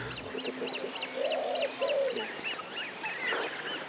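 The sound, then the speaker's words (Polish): A chorus of thin, high-pitched peeping calls from coot chicks repeats steadily, with a few lower honking calls of adult coots mixed in, against a faint outdoor background. “Z młodymi były, które piszczały niczym na porządnym festiwalu.”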